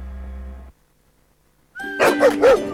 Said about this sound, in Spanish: Esos ladridos son los perritos de la Corporación Mirada Animal Chile, que están felices por el nuevo Centro de Control y Recuperación Canina.